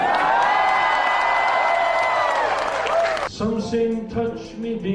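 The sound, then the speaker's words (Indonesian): A crowd at a White House state dinner claps and cheers loudly with scattered whoops over a sustained vocal tone after South Korean President Yoon Suk-yeol sings one of his favorite songs, then the noise thins out and a lower voice carries on beneath the fading applause. “salah satu lagu favoritnya yang disambut dengan tepuk tangan meriah.”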